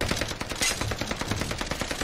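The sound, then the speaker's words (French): A loud stream of machine gun fire strafes the facade of a small house, rattling without pause, rapid shots blurring into a dense, continuous hammering, with no voices heard. “La façade de la petite maison est soudainement mitraillée.”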